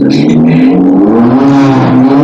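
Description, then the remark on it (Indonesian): A car drives past beside a toll road, its engine droning loudly with a steady hum that rises slightly in pitch as it goes, filling the whole brief moment. “Sorry ya pendengar, ada mobil tadi lewat.”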